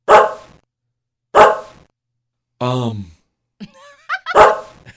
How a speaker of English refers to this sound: That's because you're not really counting, jackass. You just bark until your master says 10. Then you stop. That's called being able to recognize the word 10. It's not counting.